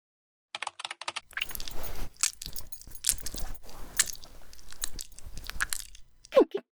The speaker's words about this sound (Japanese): スライムちゃん器用だね。ベルトも外せるんだ。ジッパーもちゃんと下げてっと。